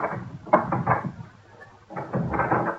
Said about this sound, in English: Curb your restless spirit. I will open the door for you.